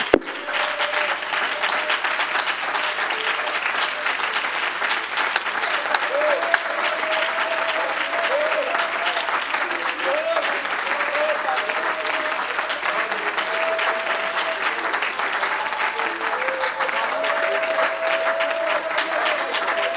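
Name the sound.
audience clapping hands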